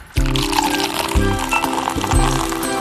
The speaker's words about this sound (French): Comme tous les matins, Gérard Ligier-Belair se sert une coupe de champagne.